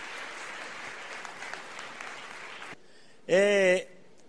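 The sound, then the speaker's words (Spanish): Dense, steady audience applause for two people being congratulated fills nearly three seconds, then cuts off and gives way to a brief, loud, high-pitched vocal whoop of a cheer. “Fuerte el aplauso”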